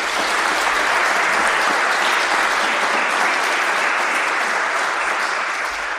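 round of applause

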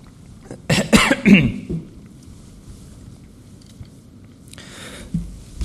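coughing

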